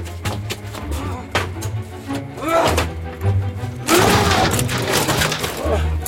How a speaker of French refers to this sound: Oh. C'est ici. Enfoncez la porte.